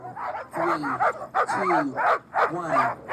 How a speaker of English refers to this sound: The Iditarod Trail sled dog race started last Monday with hundreds of barking sled dogs and mushers high-fiving fans as they hit the trail.